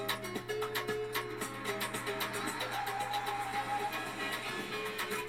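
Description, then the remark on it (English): Faint, distant mariachi-style music with horns and strumming plays on while a car roars down the street at full throttle, its engine a steady low rumble running under the whole stretch. No one speaks. “You hear some music in the distance as a car roars down the street at full throttle.”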